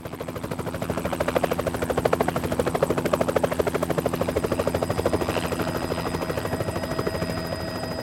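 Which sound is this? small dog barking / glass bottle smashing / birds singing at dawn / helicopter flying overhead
helicopter flying overhead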